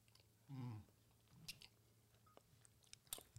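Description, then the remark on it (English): Open-mouthed chewing of food: wet smacks and sharp crunchy clicks at an irregular pace, with a brief low humming murmur near the start. No one speaks. “And are just hearing clapping mouths.”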